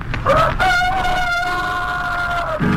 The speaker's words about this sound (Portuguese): A gente pensa que ao romper do dia o galo canta pra saudar o sol. Mas quando canta o galo diz somente: se eu tivesse dente só usava Eucalol.